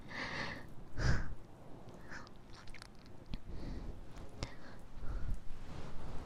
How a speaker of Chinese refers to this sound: 你还好吗？你的呼吸声音好重啊，弟弟。